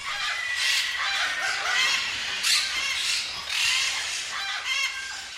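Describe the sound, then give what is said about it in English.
A dense, continuous din of some 350 to 400 rescued parrots screeching and squawking at once inside a former chicken farm building of about 20,000 square feet. The sound is loud, with overlapping harsh calls swelling in waves and no voices. “Well, we only have about 350 to 400 parrots there now.”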